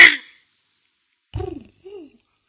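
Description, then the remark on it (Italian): A person's voice imitates a dove's cooing with two soft, low, hooting notes, the second shorter and lighter, after a brief burst of noise and a pause. “A me piace quei colombe di mattina, no? Fanno quel canto all'alba e anche al tramonte.”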